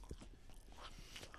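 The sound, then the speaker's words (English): Close-up chewing with irregular wet crunches and bites, right up against the microphone. The mouth noises come in quick bursts with no one talking. “Your chewing is so loud.”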